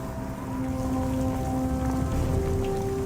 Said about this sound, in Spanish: Cae la noche y la lluvia continúa.